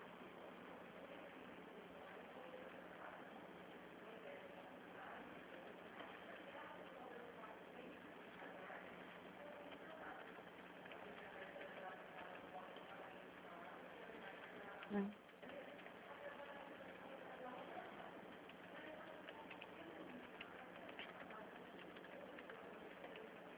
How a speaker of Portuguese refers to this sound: É que eu falei para você, minha impressora, ela é bem devagar. Eu pedi a impressão.